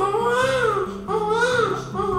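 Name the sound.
baby crying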